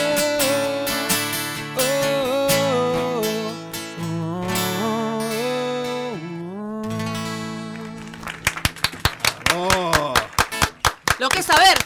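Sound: rhythmic hand clapping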